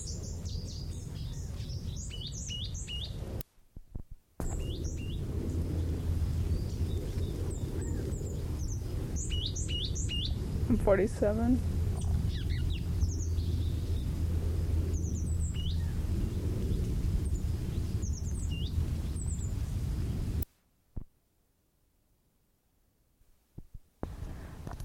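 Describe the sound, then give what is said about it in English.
Short, high call notes from a mated pair of birds, the male, the female or both, come in scattered bursts and little clusters over a steady low rumbling background, with no song phrases; the sound cuts out briefly and ends in silence. “There are two birds, mated pair, and I don't know whether I was recording the call notes of the male or the female, probably both.”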